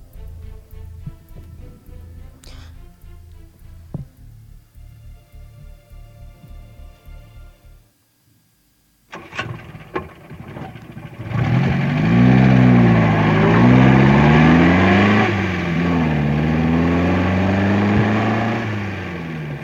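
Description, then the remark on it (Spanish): A car engine idles, cuts out briefly, then starts up again and roars loudly as the car drives off at night in summer on a family trip to a cabin, its pitch rising and falling with acceleration. No one speaks. “Era de noche, en verano, cuando la familia Williams iba de viaje en el coche a una cabaña.”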